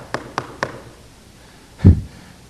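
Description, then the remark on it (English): Three quick, evenly spaced, crisp knocks on a door, followed after a pause by a single duller, heavier thud. No one speaks. “That word knock doesn't mean just knock.”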